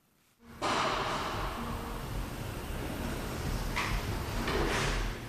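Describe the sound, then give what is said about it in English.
Heavy sliding metal doors at a jail open with a loud, sustained rumbling scrape, grinding along for several seconds with a brief clank partway through, echoing. “We wait to enter through heavy sliding metal doors.”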